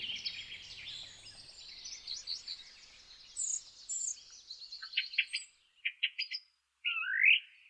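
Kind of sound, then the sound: bird, song thrush singing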